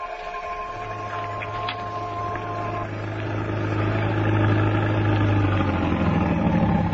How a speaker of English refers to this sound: But there's a million people visiting New York every day. They take trolley cars, subways, buses. You? You had to take a taxi. My taxi. Well, there it is. Get in.